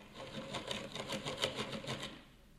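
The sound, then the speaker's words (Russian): A drill bores a ventilation hole in a box used as an incubator: a steady, rhythmic grinding rattle with quick repeating pulses for about two seconds, then it cuts out, leaving near silence. “Так, сейчас я еще одну дырку просверлю.”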